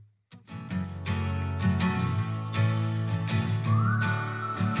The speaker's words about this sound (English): We got whistle. We got acoustic.